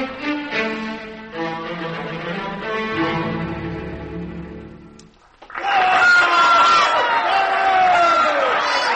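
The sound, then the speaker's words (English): Orchestral music plays, breaks off for a moment, then a large New York concert audience erupts in loud, sustained cheering and applause, with shouts and whistles rising over the din. “New York music lovers had never heard anything like it before, and New York music lovers never behaved quite like this before.”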